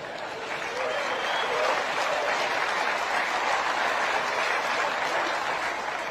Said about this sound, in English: And I don't know why you're clapping.